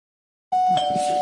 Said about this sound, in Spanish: Ahí están las pizzas de Papayons que llegan siempre aquí a Radio Marca Bilbao, ¿eh? Suena el timbre, si no tienes el timbre así en tu casa. Adelante, pues, adelante. Que puede ser cualquier timbre, ¿eh?